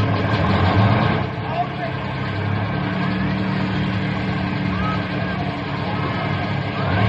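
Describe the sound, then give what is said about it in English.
A bus engine idles with a steady, loud low rumble that holds for several seconds as a group of fellows is hurried aboard, faint indistinct voices murmuring beneath it. “Double time into the bus.”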